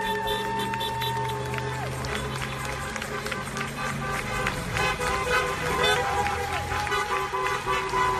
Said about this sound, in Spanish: cuando los neoyorquinos recibieron el mensaje que avisaba de que a esa hora entraba en vigor, lo que se escuchó en muchos puntos de la ciudad y de los barrios periféricos fue un gran aplauso y bocinas de coches que se sumaban así al apoyo.